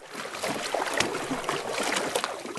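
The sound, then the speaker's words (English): Water sloshes and splashes steadily as about a dozen teachers paddle canoes on Blackwater Creek in Annapolis, Maryland, on a warm summer day, with soft watery strokes and a broad outdoor wash of sound, no one speaking. “On a warm summer day, about a dozen teachers are paddling canoes on Blackwater Creek in Annapolis, Maryland.”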